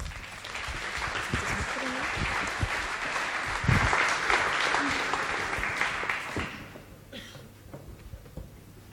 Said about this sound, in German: Einen großen Applaus